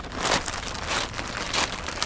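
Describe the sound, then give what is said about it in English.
Continuous rustling and crinkling of a stiff synthetic protective suit being handled around the center seam that protects the zipper, with a few louder swishes as the material is shifted and folded; no one speaks. “This is the center seam that protects the zipper.”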